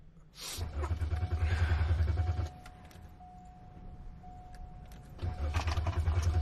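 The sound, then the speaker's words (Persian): A car buried under snow and ice, its engine cranking with a rapid, chugging starter rhythm in two separate attempts, each a couple of seconds long, and never catching; a faint steady whine hums in the quiet gap between tries. “خب حداقل موتور رو روشن میکنیم و کمک میکنه گرم بشیم.”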